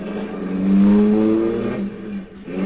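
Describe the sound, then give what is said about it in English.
A car engine revs up loudly, its pitch rising and holding, then eases off as the vehicle pulls away, with the rumble dipping briefly before picking up again. “Then we drove on.”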